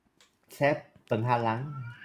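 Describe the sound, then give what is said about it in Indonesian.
A pet cat cries out twice, a short meow followed by a longer, drawn-out wailing meow, fairly loud with no talking over it. “Saya punya kucing dia bising. You boleh dengar? Ya, boleh dengar. Dia macam nangis.”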